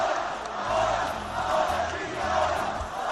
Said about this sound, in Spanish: Lo que se gritaba y se sigue gritando. Ese cántico se seguía coreando y se seguirá coreando en el Molinón y más allá